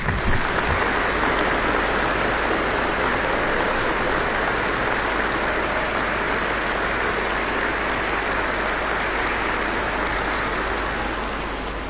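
Sustained, reverberant applause from a large crowd in a church, at a gathering hosted by Franciscan friars and broadcast on Radio Maryja, sent to Pope Francis and the sick; a dense, even wash of clapping that holds steady for about twelve seconds before easing slightly at the end.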